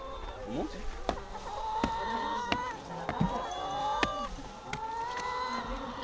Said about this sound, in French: Donc, sur l'exploitation 200 poules pondeuses, je vais vous montrer où elles dorment, où elles mangent. C'est ce qu'on appelle la maison des poules et où elles pondent.